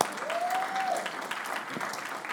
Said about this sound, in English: You guys are doing something really weird for Jesus, and it's, you should give yourself a round of applause because this is incredible.